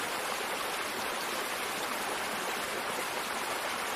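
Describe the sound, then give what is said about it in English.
A steady, continuous rush of water tumbling over rocks in a meandering stream in a forest, fairly loud, with a bright hissing wash and no pauses or voices. “A waterfall cascades over a cliff, then a meandering stream rushes over rocks in the heart of a forest.”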